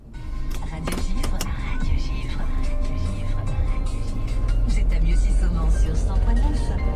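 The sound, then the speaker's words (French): Steady low engine rumble and road drone inside a moving car being driven in a valley in Haute-Savoie, France, continuous and fairly loud throughout, with a few brief clicks near the start and muffled voices mixed in. “C'est au volant de ma voiture que tout a commencé.”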